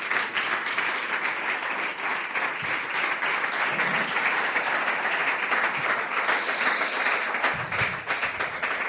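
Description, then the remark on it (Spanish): A crowd at an event applauds the president of the Xunta de Galicia, Alfonso Rueda Valenzuela, many hands clapping in a dense, even roar that holds at full strength for several seconds without any voices rising above it. “el presidente de la Xunta de Galicia, para el que pido un fuerte aplauso, don Alfonso Rueda Valenzuela.”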